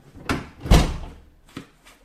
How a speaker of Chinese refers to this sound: 请进，把门反锁一下。